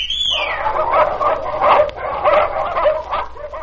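Small dogs bark and yip in quick, overlapping bursts, fairly loud, keeping up a busy excited chatter throughout; a brief high descending whistle-like tone sounds at the very start.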